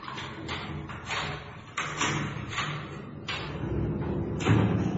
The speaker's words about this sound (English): Arthur was pushed forward and the door was slid to and locked.